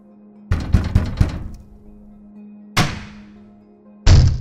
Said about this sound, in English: I jumped at the sudden commotion as someone or something was banging on the side entrance door. Holy shitballs! I jumped to my feet, knowing at any damn moment that door would probably come flying off its hinges